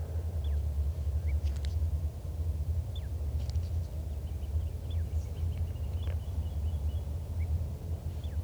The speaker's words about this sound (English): Recording again that wild bird in soft song.